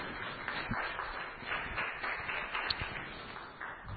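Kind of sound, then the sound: crowd, round of applause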